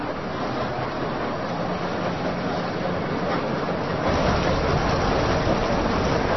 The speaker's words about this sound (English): That's coal pouring off of a conveyor belt.